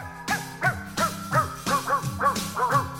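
Barks from dogs, pitched to different notes, are strung together in a quick, steady rhythm so they trace a catchy pop melody. There are roughly eight clear barks in a row, loud, with no talking.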